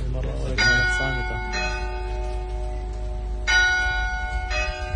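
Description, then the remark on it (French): Three newly cast church bells, cast in Normandy and brought to the church of a convent under reconstruction, ring out in slow, spaced strikes, four clear resonant peals with long humming decays overlapping one another, while a voice briefly talks at the very start. “le chantier de l'église du couvent Notre-Dame de l'Eure, où sont arrivées les 3 nouvelles cloches fondues en Normandie.”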